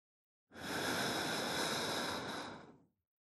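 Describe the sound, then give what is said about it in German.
A single slow exhale by a feverish patient on a doctor's instruction during an examination, a steady breathy hiss lasting a little over two seconds that starts abruptly and tapers off at the end, with no talking. “Langsam ausatmen.”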